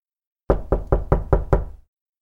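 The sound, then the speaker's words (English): Six firm, evenly spaced knocks on a wooden door, fairly loud, each with a short hollow thud and brief decay, then silence. “She was in the midst of tearing out 2 days' unsatisfactory work when there was another knock at the door.”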